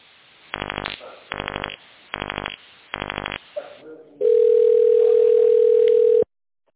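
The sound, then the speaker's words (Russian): Four short, evenly spaced electronic touch-tone key presses as an employee's internal extension is dialed on a call to Credit Europe Bank, then a steady, loud ringing tone on the phone line that holds for about two seconds before cutting off. “Наберите внутренний номер телефона сотрудника в тоновом режиме.”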